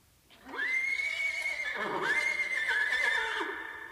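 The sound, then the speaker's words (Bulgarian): A horse neighs loudly in a wilderness, one long whinny with a high wavering pitch that rises, holds and shakes before trailing off, heard on its own with no talking. “А, добре ли чуват ушите ми? Възможно ли е да се намери кон в тази пустош?”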